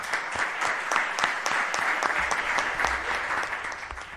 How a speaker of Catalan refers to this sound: Este és el moment quan estan aplaudint tots els membres de, diguem, el consistori Vila-real. Els que sentim els aplaudiments de les persones que n'hi han, però el que estem sentint és l'aplaudiment dels representants, així és, de tota la ciutat,